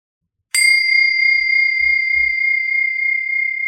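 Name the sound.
meditation bell ringing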